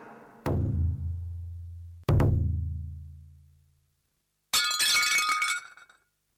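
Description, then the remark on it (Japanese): Two deep, booming impacts ring out and fade, then a bright crash of a plate, broken by a wife at 8 a.m. before work, breaking and shattering into pieces for about a second, with no voices. “出勤前の午前8時、妻がお皿を割った。”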